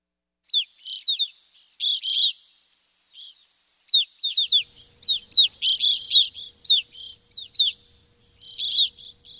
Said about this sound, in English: Well, how pretty. That's an evening grosbeak,